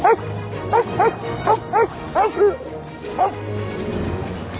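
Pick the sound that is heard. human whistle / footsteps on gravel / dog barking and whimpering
dog barking and whimpering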